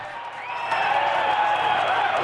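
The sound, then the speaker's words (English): Crew members clapping and cheering for a singer as he is hurried out of the venue by torchlight after a show, swelling in the first second and then holding steady as a dense, continuous wash of applause with some voices mixed in. “Crew applaud him as he's hurried out of the venue by torchlight and straight into an idling tour bus.”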